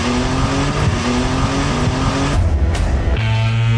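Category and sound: vehicle, race car engine roaring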